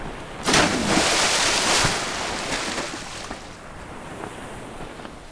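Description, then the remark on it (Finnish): Stormy seas roar with a loud, hissing wash of crashing waves that surges in the first two seconds, then settles into a steady churning rush with gusting wind and no voices. “Myrsky yltyy yhä vain kovemmaksi.”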